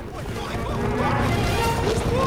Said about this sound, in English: Everyone looks up. There's something coming. Suddenly, the herd of cattle comes thundering out of the jungle.